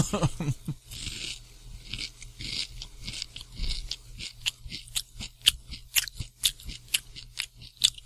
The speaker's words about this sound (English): And he's crunching away.